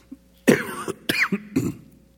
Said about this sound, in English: I apologize for that. And all week long, I'm fine. And then I get up Sunday morning to preach and I start coughing all the time. I don't know what it is. So I apologize. I will try not to do that throughout the message.